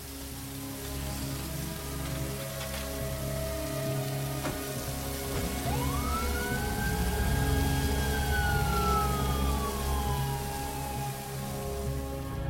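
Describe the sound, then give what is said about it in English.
An ambulance siren swells in one long rising-then-falling wail over steady, heavy rain pattering on the hard ground of an airport tarmac in pouring rain, as three paramedics stretcher a man wearing an oxygen mask to the ambulance. No one speaks. “On the tarmac in pouring rain, he's stretchered to an ambulance by three paramedics, an oxygen mask over his mouth.”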